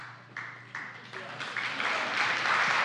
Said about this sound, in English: Okay. Somebody started the slow clap.